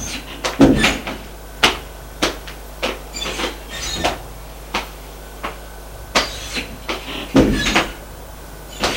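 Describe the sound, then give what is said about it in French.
Men open doors on the upper floor of a house, with a string of sharp clicks and knocks from latches and handles, irregularly spaced, plus a couple of heavier thumps. No one speaks. “Là, une fois arrivés à l'étage, ils ouvrent les portes pour voir.”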